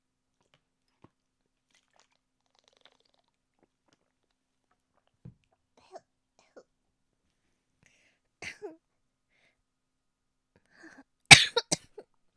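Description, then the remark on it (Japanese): A few quiet, scattered mouth noises, then a sudden burst of several sharp coughs in quick succession near the end, from a very dry throat, followed by silence. “ごめんなさい、咳しちゃった。カラカラしすぎちゃって。”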